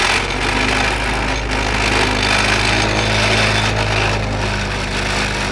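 Coronado's tractor drives a 10 to 12 foot fence post into the ground between tart cherry trees: a loud, steady engine drone with a continuous heavy rattling and grinding over it, and no talking.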